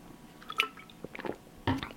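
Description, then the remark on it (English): Someone takes a sip of water: a few soft, wet mouth and swallowing sounds in short bursts, with a sharper gulp near the end and no talking. “Just going to have a quick drink of water.”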